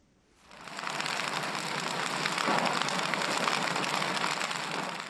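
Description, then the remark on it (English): A campfire in a remote village on Cameroon's northwestern border with Nigeria, where men and boys roast cocoyam for supper, burns with a dense, steady crackle and hiss, many tiny pops blending into a constant rush that swells in after a brief silence and holds without any voices. “A campfire burns in a remote village on Cameroon's northwestern border with Nigeria, where seven men and five boys roast cocoyam for supper.”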